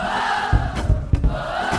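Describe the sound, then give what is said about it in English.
An Irish concert crowd yells a song chant together after the singer, a loud, sustained wall of many voices with rhythmic swells and sharp thumping accents as they scream in unison. “I need to scream it a bit louder than that.”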